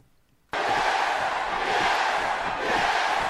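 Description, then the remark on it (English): A large crowd of fans screams a chant of a network's name in unison, bursting in abruptly after a brief silence and holding loud and steady to the end, sounding dense. “they are actually screaming the network that the Don Show's on”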